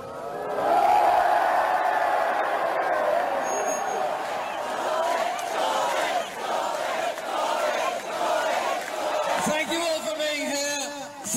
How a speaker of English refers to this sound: I've not heard that sort of reaction, that sort of chanting since I was down the road at Headingley watching England in the one day. Let's have a listen and a look at now his reception as he got off the battle bus here in Leeds.